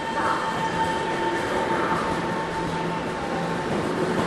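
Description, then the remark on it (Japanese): Steady rumble inside a moving train carriage in Taiwan, with a constant low roar, faint mechanical hum and tonal whine running evenly throughout, no voices standing out. “本当になんか台湾って昭和、電車の中入って一段段があるのもそうだし、網棚があるのもそうだし、で日本の電車ってさみんな携帯広げるでしょ。”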